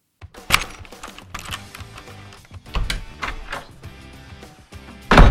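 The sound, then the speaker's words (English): A front door opens and shuts as someone arrives home: a sharp clunk, some rattling of the latch and handle, another thump midway, and a loud final bang as it closes. No voices. “Mom, I just walked in the door.”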